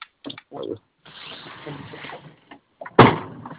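A few soft knocks and a stretch of scraping movement, then a door swings shut with a single sharp thud near the end.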